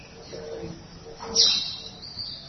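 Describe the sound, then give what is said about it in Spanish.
A bird sings a short, bright chirping phrase around the middle, clear above a murmuring, noisy background with faint low tones. “¿Por qué no viene un pajarito a cantar, digamos, con el ruido que venía y vino ese pájaro hace un momento, cuando no estamos en casa?”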